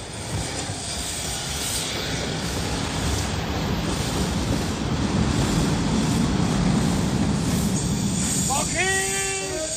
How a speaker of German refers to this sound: Ja, der Zug.